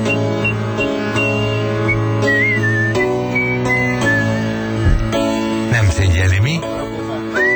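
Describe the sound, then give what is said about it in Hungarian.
A song with a whistled melody drifting over a steady, full musical backing, the whistle sliding between notes in short phrases, fairly loud and up front in the mix. “Akkor a pofátlanság, ez a füttye azért lett volna mit dolgozni, de lett volna.”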